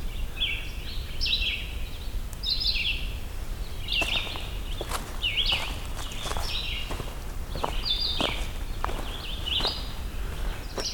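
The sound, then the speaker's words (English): A red-eyed vireo sings short, warbled phrases, repeated every second or so with brief pauses, fairly clear over a steady background of crunching footsteps. “So these are red-eyed vireos.”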